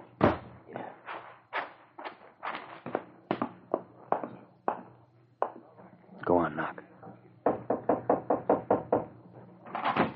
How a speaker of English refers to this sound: I'll knock at the door.